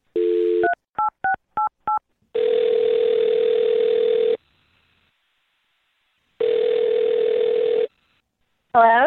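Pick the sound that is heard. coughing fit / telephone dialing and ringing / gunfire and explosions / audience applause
telephone dialing and ringing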